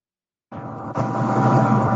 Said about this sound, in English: calling from his car